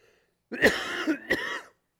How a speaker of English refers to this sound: What a rotten time to have to cough. Okay, we'll try to go back to that. Again, my apologies.